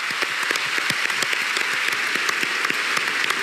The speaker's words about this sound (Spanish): Es que si aplauden no se me oye.